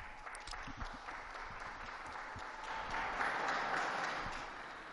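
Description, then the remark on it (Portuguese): Sustained applause from a large crowd for the young Portuguese people who handed over the cross, a dense steady patter of many hands clapping that swells slightly louder toward the end, with no voices standing out. “E também um aplauso aos jovens portugueses que entregaram a cruz.”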